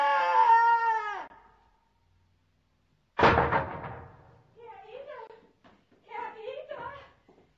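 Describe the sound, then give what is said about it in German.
A high, strained voice cries out, then after a pause a loud crash of drawers thrown down onto the floor by Pumuckl rings out and clatters away, followed by people talking. “Jetzt hat er die Schubladen runtergeschmissen.”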